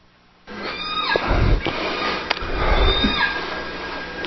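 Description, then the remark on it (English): Whale vocal calls: several high whistling cries that sweep downward in pitch, with a sharp click or two and a low rumbling wash underneath, no talking. “So this is when they vocalize. This is apparently the main way they communicate. These are all distinct calls”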